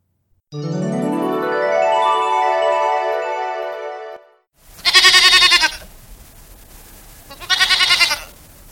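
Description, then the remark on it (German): A rising, shimmering whoosh-like tone swells for a few seconds, then a sheep bleats loudly twice, each a wavering, vibrating call with a short pause between them. “Oh nein, ein Schaf.”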